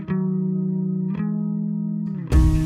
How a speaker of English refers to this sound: I did the reverb. Thanks, huh? Yay. You hit the reverb button for me that time.